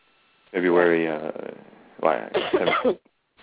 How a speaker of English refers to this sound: Well, before I go to cough some more,